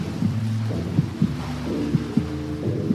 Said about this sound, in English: And as she swam, pushing herself to go faster, always faster, all she could hear was her heartbeat and the water.